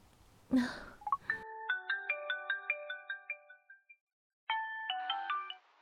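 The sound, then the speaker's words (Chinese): A brief rustle, then a melodic electronic phone ringtone plays a quick run of tones while a call is placed to a husband, pauses for a moment, and starts again, clear with no one talking. “不行，得先给老公他打个电话。”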